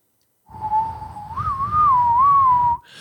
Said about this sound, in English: That little Indian Native American whistle, that kind of I know you were hitting that back in the day.